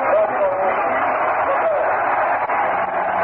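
ballpark crowd cheering

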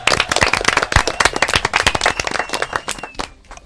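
children applauding

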